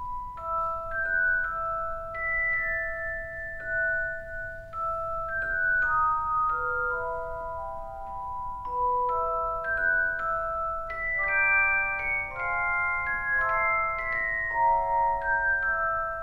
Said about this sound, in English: It sounds like these chimey bells ringing. It's beautiful. And an actual celeste is a keyboard instrument, like a piano, which has hammers that strike bells rather than strings, like a piano hammer would strike.